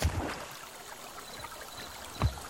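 Water runs steadily over rocks in a shallow stream, a soft continuous babble with a couple of brief, louder splashes near the start and close to the end. No one speaks.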